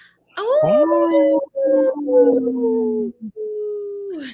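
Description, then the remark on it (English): A wolf of the Minnesota wolf population howls in long, sustained, wavering tones, broken into several drawn-out calls with brief pauses between them, loud with no talking. “Hey, this portion of the show, we'd like to bring awareness to our Minnesota wolf population.”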